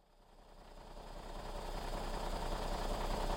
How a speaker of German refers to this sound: Die Mannschaft sitzt noch immer im Bus, ohne sich zu rühren. Die Tanknadel steht auf Null. Der Motor läuft, stockt und verstummt.